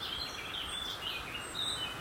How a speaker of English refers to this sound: Although the roar of the Beck below, which is getting a bit more dramatic as we head down the valley, is quite loud, the birds are really overshadowing that and providing quite a cacophony of sound, as you can probably hear in the background.